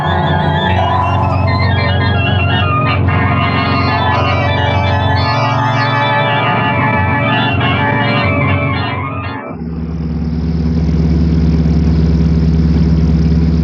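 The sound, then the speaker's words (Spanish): A car engine runs steadily as the car is driven through the Arab quarter of Tangier, a loud low hum with a rough mechanical drone. Partway through, the tone shifts to a smoother, even idle-like rumble that continues to the end. “El gigante japonés conduce el auto a prudente distancia, internándose por el barrio árabe de Tánger.”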